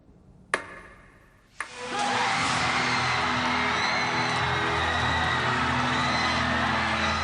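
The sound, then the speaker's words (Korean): Two sharp taps, then a large crowd bursts into loud, sustained cheering and whooping that holds steady to the end, after the final point at 20-20 in a table tennis match between a unified North and South Korean team and China. “모두가 환호합니다.”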